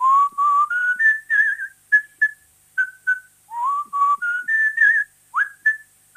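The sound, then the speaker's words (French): A person whistles The Blue Danube waltz, clear and fairly loud, with rising phrases that end in short repeated notes, alone with no talking. “Un beau Danube bleu, évidemment.”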